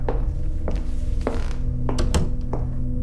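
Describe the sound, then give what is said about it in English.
A door is shut behind a visitor who has just come in, with a series of dull thunks and clicks, the heaviest knock coming near the end, over a steady low hum with no voices. “You can close the door behind you.”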